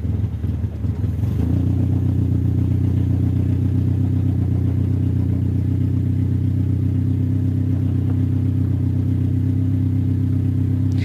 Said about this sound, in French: On va partir, hein ? Oui, alors partons. Et le moteur est parti.